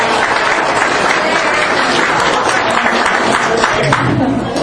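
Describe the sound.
Loud, sustained audience applause: a dense wash of many hands clapping together, steady and unbroken for several seconds, with a faint murmur of voices mixed in.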